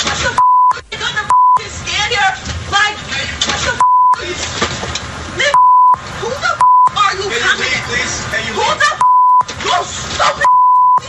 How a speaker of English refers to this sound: I wonder what she's saying with the bleep.